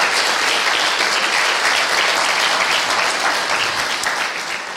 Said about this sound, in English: Can we give our kids ministry teams a big round of applause?